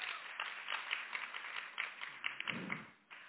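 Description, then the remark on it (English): An audience in Alabama breaks into steady applause, many hands clapping in a dense, even patter that holds at a moderate level, then thins and fades near the end. “And it's worth clapping for.”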